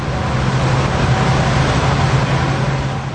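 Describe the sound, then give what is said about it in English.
Powerful diesel engines of the Lake Express, a nearly 200-foot high-speed catamaran ferry crossing Lake Michigan between Milwaukee and Muskegon at nearly 40 mph, drone steadily beside a broad rush of churning water jets. Four diesel engines drive the jets. A low constant hum runs through the loud, unbroken roar with no voices. “Four diesel engines drive high-powered jets underneath the catamaran-style boat.”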